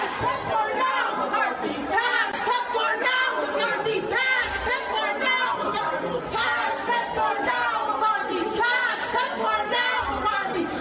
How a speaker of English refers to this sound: They stormed his office in what I'm sure the national media labeled an insurrection, right? And screaming and chanting at the top of their lungs. By the way, this is what hell sounds like.